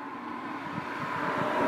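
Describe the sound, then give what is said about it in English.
A bus approaching along a busy road: a steady low engine rumble with broad road hiss that swells slightly louder toward the end. There are no voices. “I think I did hear one this time.”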